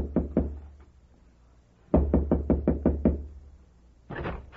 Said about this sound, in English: It was a big old wooden house that must have been called a mansion when it was first built. Only it was a little run down now. I told the driver to wait, then walked up the path to the big front door and knocked.